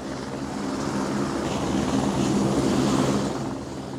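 A helicopter drones steadily overhead, its low rotor chop and engine roar holding a constant, fairly loud level for several seconds before easing slightly at the end. No voices are present.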